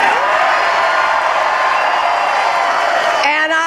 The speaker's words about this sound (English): In a ballroom at the New York Sheraton, where many victories have been celebrated over the years, Hillary Clinton was greeted by a roaring crowd of supporters.